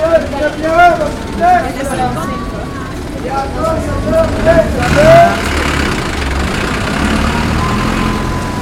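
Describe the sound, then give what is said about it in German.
A bus fare collector in Cusco calls out in a loud, sing-song voice, repeating short shouts over steady street traffic and idling engines, the engine rumble continuous underneath. “Ein Cobrador habe ich tatsächlich auch aufgenommen.”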